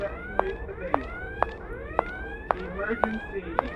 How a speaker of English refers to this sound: Now, I can hear an alarm to my left in terms of stereo placement. And as I move forward, it gets louder.